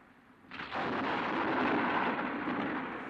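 A deep roll of thunder from a night-time thunderstorm breaks in after a quiet moment and rumbles on steadily, broad and heavy, with no voices present.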